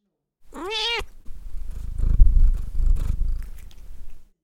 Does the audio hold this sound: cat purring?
yes